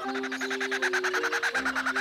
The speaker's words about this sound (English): Let's listen to another. This is a kookaburra.